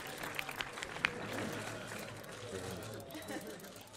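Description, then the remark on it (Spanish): A crowd applauds steadily for a tearful, emotional elderly player at his farewell after 60 years of playing, a dense wash of clapping from a large audience, with faint murmuring voices underneath and a few sharper claps standing out early on. “La gente le aplaude en este momento.”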